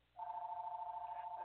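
signal or alarm, phone ringing

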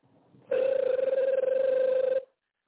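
signal or alarm, outgoing phone call ringing

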